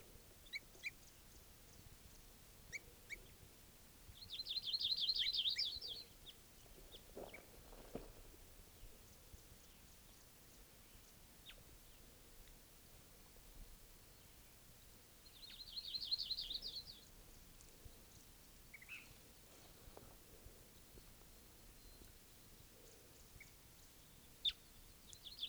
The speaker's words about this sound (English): Recording again, that same bird.